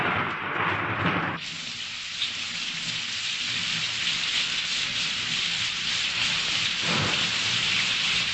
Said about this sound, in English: And then there is rain.